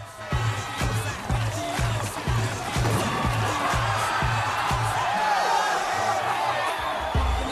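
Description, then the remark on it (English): A loud crowd cheers and whoops wildly and continuously at a dance-off between the 4-9 crew and the Uncle Toms, with judges watching, over a pounding, steady music beat, the noise staying dense and energetic from start to finish. “The crowd cheers wildly, the judges make notes smiling, and the Uncle Toms look concerned.”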